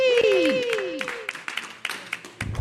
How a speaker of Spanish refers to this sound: Shit, fuerte aplauso para